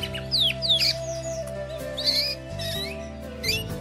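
Canaries chirp in quick, bright, high-pitched trills and sweeps, coming in several short bursts over a steady, low musical drone that runs underneath the whole time.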